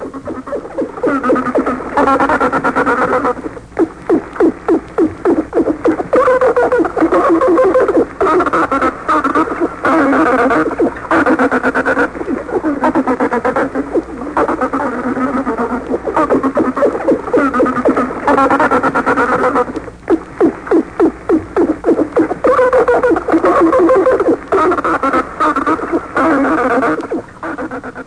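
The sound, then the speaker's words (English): Rapid trains of clicks from a bottlenose dolphin searching for food in an enclosed experimental tank crackle steadily, mixed with squeaky, buzzing chirps that rise and fall in pitch, forming a dense, continuous chatter with a brief lull midway and no speech. “Listen to his clicks and chirps as he searches for food in an enclosed experimental tank.”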